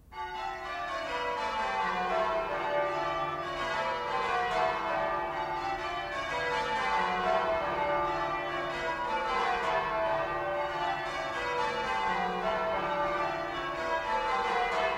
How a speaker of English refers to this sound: Bells high in a church tower ringing out. This is English change ringing, composed according to strict rules of mathematical permutations.